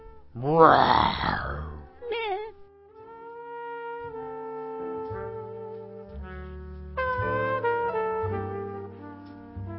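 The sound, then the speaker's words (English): A person imitates a lion's roar with one loud, gravelly, wavering growl lasting about a second. A brief vocal sound follows, then steady instrumental music plays for the rest. “Let me hear the lion again. It's hard on my throat.”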